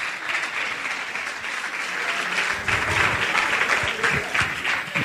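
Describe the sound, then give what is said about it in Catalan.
Steady audience applause at a live show before La Riota begins, a dense wash of many hands clapping at an even loudness for several seconds, swelling slightly near the end, with no voices clearly audible over it. “Abans de començar, pot aplaudir qui sàpiga què és la riota, qui hagi escoltat un minut del seu podcast?”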